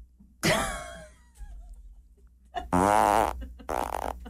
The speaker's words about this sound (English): Your dumb vocabulary for today, Dutch box. Dutch box? Oh, is that where you fart in a box?